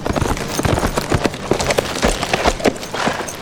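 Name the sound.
horse hooves clip-clopping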